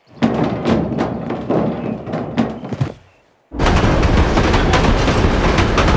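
In the animated short film Birthday Boy, a train carrying tanks speeds toward a child: rhythmic heavy clattering thuds over a low rumble, a brief hush, then a loud, continuous roaring rush of noise. No one speaks.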